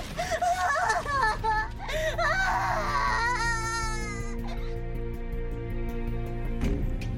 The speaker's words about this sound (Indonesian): Setiap malam Jinjong mendengar suara tangisan anak